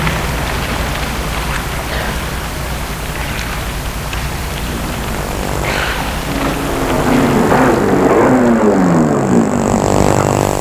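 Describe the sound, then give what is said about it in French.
A car engine approaches over steady rain noise, growing louder, then its pitch drops and slides down as the car slows and comes to a stop. “Une voiture vient de s'arrêter.”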